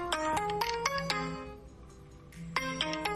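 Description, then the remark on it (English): A melodic phone ringtone for an incoming call to a Brax virtual phone number plays a quick run of bright electronic notes, pauses for about a second, then starts the same tune again, clear and alone with no talking. “Let me receive a call.”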